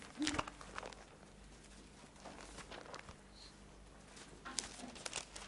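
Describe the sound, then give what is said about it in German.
Thin Bible pages being flipped through toward the Book of Revelation, chapter 19, a series of quick rustles and crinkles with a few sharper flicks near the start and end, no voices over them. “Und dann blättern wir mal zum anderen Ende der Bibel, nämlich zur Offenbarung, in Kapitel 19.”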